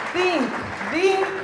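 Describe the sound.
An audience claps steadily for about a second and a half for a man speaking about raising awareness on cyberbullying, a dense wash of applause with voices calling out and cheering over it, rising and falling in pitch.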